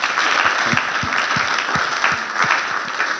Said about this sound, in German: Come on, Applaus für das. Ja.